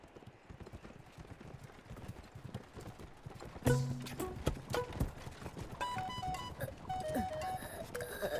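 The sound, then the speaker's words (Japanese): Steady clip-clopping of horse hooves pulling a carriage, the lead carriage with a second carriage following behind, a brisk repeating rhythm, with rattling and a brighter tonal jingle joining partway through. “二人は僕と先頭の馬車へ、後ろの馬車で仲間がついてきます。”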